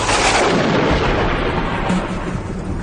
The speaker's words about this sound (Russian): Фигура не выражала ни страха, ни беспокойства, как будто он оглох от грома и ослеп от молнии.